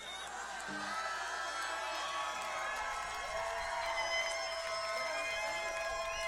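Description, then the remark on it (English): A large audience claps and cheers steadily, a dense roar of hands with whoops and shouted voices rising through it, sustained at an even, loud level from start to finish. “in Australia, people sleep applaud louder than that.”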